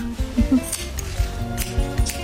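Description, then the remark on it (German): Scissors snip through a customer's hair during a 'Silent Cut' at a hairdresser in an SWR3 sketch, in a steady rhythm, about five crisp, metallic cuts roughly every half second, with a low tonal hum beneath and no one speaking. “Ich will das reine Schnippe von deinem Scherge hören.”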